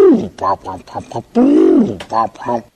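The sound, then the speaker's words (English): Mike Tyson imitates a pigeon's call: a string of short, throaty, pitched coos with one longer swooping note in the middle, loud and continuous, with no other sounds behind it. “And it's Mike Tyson imitating a pigeon.”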